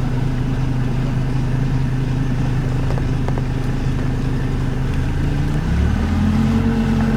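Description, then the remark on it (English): A motorboat engine drones steadily and loudly, its low hum rising in pitch near the end as the throttle opens, with no talking over it. “Put the cap back on, we're going to motor.”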